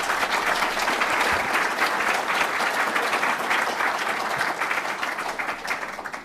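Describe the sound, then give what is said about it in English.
A crowd applauds steadily for about six seconds to welcome Professor Roger Trigg, a dense, even wash of many hands clapping at a fairly loud level that thins slightly toward the end. No one speaks. “He is an Anglican, a member of the Church of England, and I ask you to give a round of applause and a welcome to Professor Roger Trigg.”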